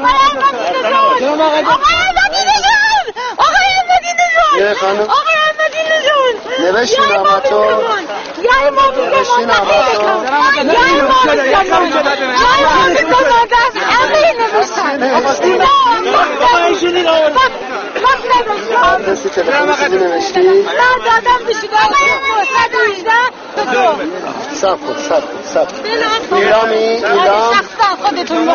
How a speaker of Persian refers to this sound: در گوشه باز هم مردمی را می بینی که نامه به دست نام احمدی نژاد را فریاد می زنند و از او می خواهند مشکلات مالیشان را حل کند.